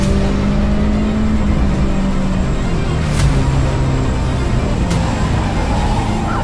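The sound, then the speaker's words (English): Race cars roar around a racetrack in a loud, continuous wash of engine noise, their pitch rising and falling as they pass, with a couple of sharp knocks partway through as cars make contact and car number 22 spins across the track and is hit. “The 22 of Anderson and Avedisian spins across the racetrack. Anderson right back into the path of traffic.”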